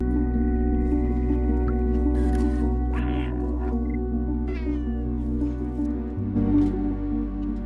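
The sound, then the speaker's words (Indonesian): A cat meows several times in a video game featuring an adventurous cat, over a steady, humming game soundtrack with droning music, the meows clear, with small rustling movement sounds between them and no one talking. “Sebuah video game baru yang menampilkan sosok seekor kucing petualang telah menyentuh hati para penggemar kucing.”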